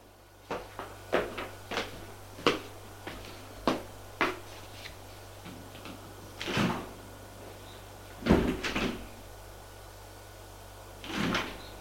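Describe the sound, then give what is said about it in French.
Elevator doors in an apartment building opening and closing: a quick run of sharp clicks and clunks gives way to three louder, broad sliding rumbles, with a faint steady hum underneath and no voices. “Et va à l'ascenseur.”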